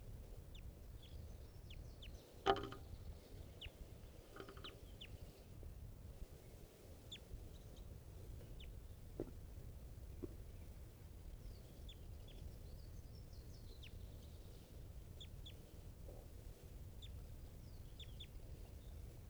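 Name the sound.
adult bird calling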